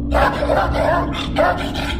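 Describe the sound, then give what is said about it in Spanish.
A dog barks excitedly in a quick run of four or five sharp barks, with a steady low hum underneath and no one talking. “Cada que nos encontrábamos con una de ellas, el perro se volvía loco.”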